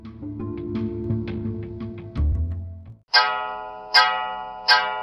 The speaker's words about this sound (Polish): Bicie mojego zegara znacie już pewnie z ostatniego odcinka. Zegar mój daje sygnał, żeby serdecznie podziękować poecie za nagranie wierszy.